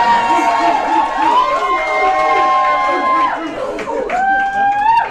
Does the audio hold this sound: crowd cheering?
yes